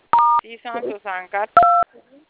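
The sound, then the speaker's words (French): Two steady electronic keypad beeps from a phone as +224 is typed in at the phone's message centre setting, each lasting about a third of a second, with a short stretch of someone speaking between them. “Oui, j'ai écrit +224.”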